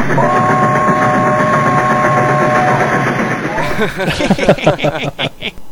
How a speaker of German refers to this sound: Wo fahren denn bitte hier in der Defias-Höhle Züge? Was zur Hölle sind überhaupt Züge?